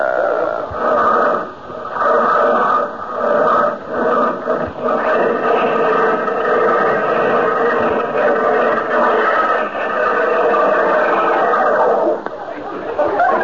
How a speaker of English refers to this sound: how'd you like the sound of that Stutz Bearcat engine under the hood there? It sounds like the bear's trying to claw its way out to me. Tell me this. How come it stalled like that?